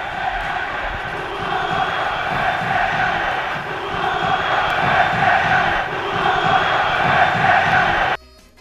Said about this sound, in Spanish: Ayer subió un poquito más la tensión, fue, además de los gritos contra las directivas habituales, también contra los futbolistas.